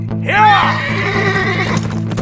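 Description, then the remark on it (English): A horse lets out a loud, wavering whinny, then fainter rustling and what could be hooves shifting follow, over a steady low hum. “Meanwhile, a badly frightened Lloyd made it to his horse.”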